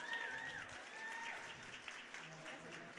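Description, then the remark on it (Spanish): Steady applause from an audience at the Nerdearla event welcomes a representative of Women Tech Makers, with dense overlapping clapping sustained throughout, a faint whistle-like tone near the start and some murmuring voices beneath. “Un fuerte aplauso,”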